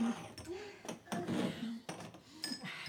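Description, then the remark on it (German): Two glass jars clink and knock together as they are handled, with several sharp taps and brief ringing tones over a low, murmuring background. “Seht ihr diese beiden Gläser hier? Die hatte ich ganz vergessen.”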